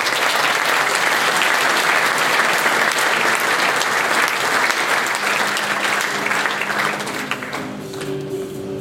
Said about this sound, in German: Auf der 2 und Platz Nummer 1 geht an Triumph mit der Rocket 3. Gratulation und Applaus.